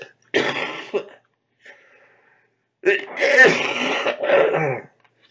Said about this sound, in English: Yeah, the cough ain't going yet. Working on it.